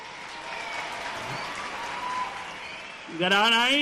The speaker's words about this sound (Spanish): Por tanto, quiero pediros un aplauso monstruoso para los reyes hermosos que desde Oriente han venido.